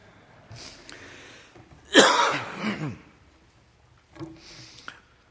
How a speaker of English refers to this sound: Well, you've done well enduring my coughing here. I've endured to the end.